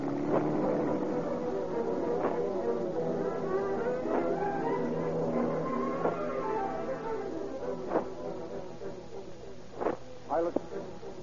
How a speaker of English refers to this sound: Piloted by the bandits, the mail truck is driven 12 blocks, closely followed by the robber's car.